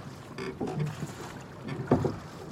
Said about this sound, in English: Stand by, we're going to come out to the harbour mouth. So hold water port. Keep rowing starboard.